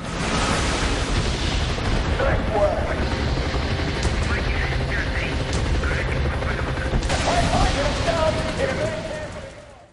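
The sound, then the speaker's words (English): A loud, sustained barrage of rapid cannon fire and rocket blasts roars continuously and densely, with a rotor-like rumble and indistinct voices mixed into the din: V-32 rockets and a 12mm nose cannon firing in the video game Call of Duty: Black Ops. “New V-32 rockets, 12mm nose cannon.”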